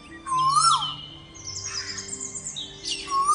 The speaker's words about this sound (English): the 2018 International Dawn Chorus Programme was one of the most ambitious we have ever undertaken, featuring live birdsong from 22 different locations throughout Europe and beyond.